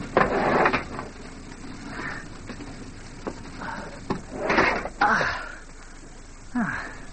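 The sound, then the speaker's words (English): A car door is opened and shut on a rainy day, with a string of sharp latch clicks and mechanical rattles followed by a couple of solid thuds over a faint background hiss. “The door's unlocked. Well, at least I can shelter from the rain.”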